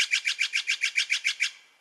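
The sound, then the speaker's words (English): A Steller's jay gives a rapid run of about ten harsh, raspy calls in a steady rhythm, loud, fading at the end, with no voices. “Nope. This is the Steller's jay.”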